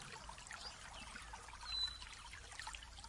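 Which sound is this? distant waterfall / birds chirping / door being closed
distant waterfall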